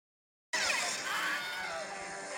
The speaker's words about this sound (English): a very specific scream that you will hear in almost every single movie ever made, going back to the 1950s. And it's called the Wilhelm Scream, right? Yeah. So it's a total stock scream.